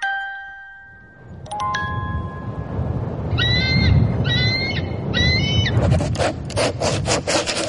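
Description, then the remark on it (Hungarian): An eagle, a bird of prey, calls: three shrill, quavering cries in quick succession, rising over a loud, steady rushing and scraping noise, with a few sharp tones before and rapid clatter after. “A sas ragadozó madár, ami azt jelenti, hogy ha egy sast csirizzel bekerünk és a falhoz vágjuk, hát oda ragad.”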